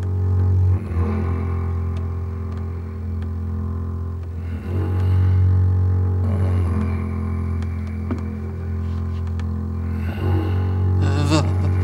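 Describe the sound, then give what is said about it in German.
Deep, rumbling snoring drones on in slow, repeated breaths, loud and low-pitched with a rough, eerie rattle, each long snore breaking briefly before the next begins. No one speaks. “Wir hörten dieses unheimliche Schnarchen.”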